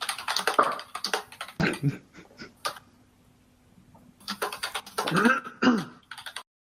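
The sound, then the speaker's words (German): Rapid, clattering keystrokes hammered out on a computer keyboard in two dense bursts separated by a quiet pause, fairly loud, with faint voice-like sounds mixed in. “Man sieht ihn ja nicht, aber ich stelle ihn mir gerade vor, er hämmert da auf dieser Tastatur rum”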